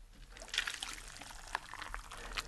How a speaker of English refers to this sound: It's brilliant in its simplicity. Boil water, open the top of the styrofoam cup, pour the water.